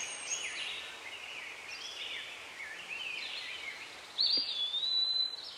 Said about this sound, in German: Die Vögel zwitschern.